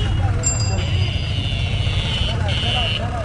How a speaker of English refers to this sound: The streets of Delhi are teeming with beggars and businessmen, auto rickshaws, scooters, and cows.